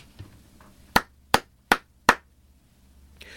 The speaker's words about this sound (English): A free giveaway this week in the bin, an automatic clapper when you want to express your appreciation for someone doing a socially useful job but don't really have the time to do it yourself. Simply play this sound effect from your phone.